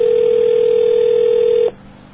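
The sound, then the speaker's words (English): A modem answering tone over a phone line on a call made at 10:30 at night, one loud, steady unbroken pitch that cuts off abruptly after about a second and a half, leaving faint line hiss. “Got the modem.”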